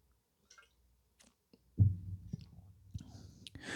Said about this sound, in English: Yeah, had to get that coffee sipping. Y'all knew it was coming eventually.